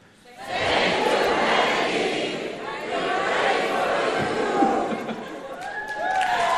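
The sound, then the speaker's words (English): A large conference crowd in Germany cheers and shouts together in a sustained, loud roar lasting several seconds, with a few whistles rising near the end. “I'm here at the gig conference in Germany, and the crowd here wanted to share something with you.”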